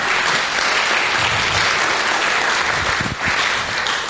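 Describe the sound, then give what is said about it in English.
A crowd applauds a female singer after her song, a dense wash of many hands clapping steadily at an even, loud level for several seconds, with a faint voice briefly audible beneath. “Come on, give her a clap, isn't she great?”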